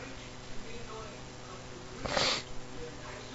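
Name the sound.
sneezing fit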